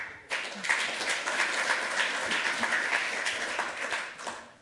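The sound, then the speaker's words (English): A crowd applauds steadily for several seconds, a dense wash of many hands clapping at an even, sustained level that swells in at the start and tapers off at the end. “But without any further ado, round of applause.”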